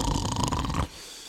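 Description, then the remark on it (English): A single loud, rattling snore lasts just under a second, with a buzzing, fluttering texture, then cuts off into a quieter background hush. No one speaks. “that is then almost immediately undercut with the gorgeous sounds of farting, snoring, and meowing cats.”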